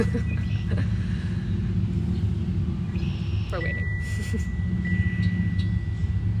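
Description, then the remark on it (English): A motorcycle engine rumbles low and steady throughout, with a brief rising whine partway through and a thin sustained tone above it, while a voice speaks a few words. “It's a motorcycle.”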